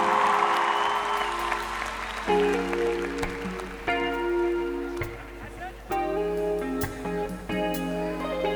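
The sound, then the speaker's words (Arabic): Audience applause for the song's composer, a dense rush of clapping for the first couple of seconds, then fading under music as sustained, stepping instrumental notes take over for the rest. “اسمع له سقفة جامدة.”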